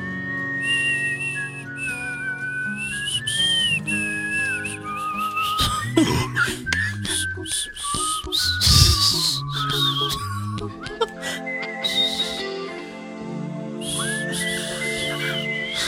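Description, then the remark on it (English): A clear, high whistled melody from one of a compilation of well-known whistling songs carries the tune over instrumental backing with a steady beat, sliding between notes and continuing throughout with only brief pauses. “So we've now compiled the best whistling songs.”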